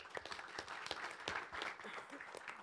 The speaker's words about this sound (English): I'd like you all to give a huge round of applause as we begin this afternoon's discussion.